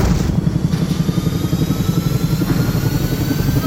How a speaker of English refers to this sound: The nose of the helicopter swung round towards us. I saw the pilot in the cockpit fighting the controls.